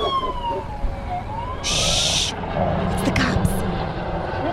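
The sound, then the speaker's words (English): Police with tracking dogs approach, heard over a speakerphone call: a police siren wails and sweeps in pitch over a rumbling engine, broken by sharp bursts of hissing noise, as the pursuit draws nearer. “That's the cops and the dogs. They must have got my scent.”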